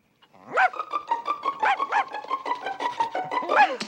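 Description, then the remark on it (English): A small dog yaps rapidly and nonstop, a loud stream of high-pitched barks running together for several seconds, with no voices over it. “Here, doggy, go on. Go chase us into the street. I can't stand Nelly little dogs.”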